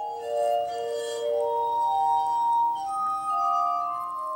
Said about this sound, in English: That was composer William Zeitler playing the glass harmonica.